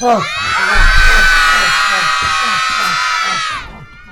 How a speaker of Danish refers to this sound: Prøv at råbe. Prøv at være stille. Prøv at være stille. Prøv at råbe på julemanden.